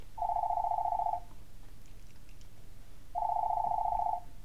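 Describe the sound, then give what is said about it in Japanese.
In the morning, a home telephone rings twice with steady electronic tones, each ring lasting about a second, separated by a pause over a quiet room hum. “ある日の午前中、自宅の電話が鳴った。”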